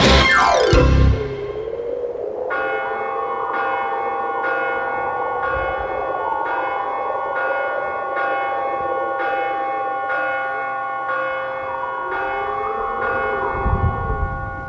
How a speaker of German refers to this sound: Hast du den Glockenschlag gehört, Fix? Es ist Punkt Mitternacht. Geisterstunde.